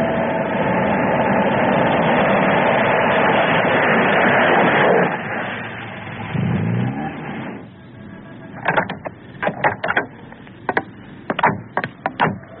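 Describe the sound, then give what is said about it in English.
A car engine, pulled over to check for a suspected flat tire, runs with a steady, full rumble, then drops to a quieter idle, with a series of sharp clicks and knocks over the last few seconds. “How come we got a flat tire, but the car's solid as a rock on the road? I'll pull over.”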